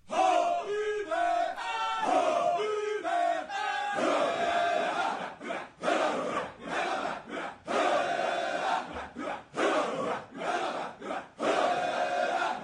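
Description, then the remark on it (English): A large Finnish male choir shouts forcefully in unison, barking short rhythmic phrases with sharp pauses between them, the first few seconds carrying a chanted, pitched melody before turning to harsh, loud collective yells. “Is it singing? Remember the ….”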